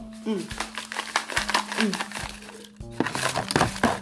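Loud, crisp crunching of someone biting and chewing an apple, with bursts of wet crackle repeating irregularly over about four seconds against a steady low hum.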